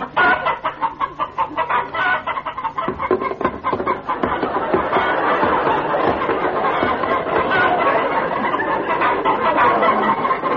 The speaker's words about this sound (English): Did you hear that, little chickens?